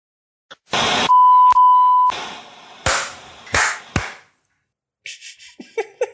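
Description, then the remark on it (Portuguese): A loud run of electronic beeps and harsh, buzzy bleeps in uneven short and long bursts, with one steady mid-pitched tone held for about a second. No one speaks. “Vai achar que é código Morse, né?”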